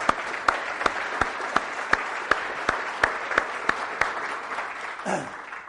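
A crowd applauds steadily, with a dense wash of clapping and a few sharper individual claps standing out at regular intervals, before a brief rustle as the applause fades.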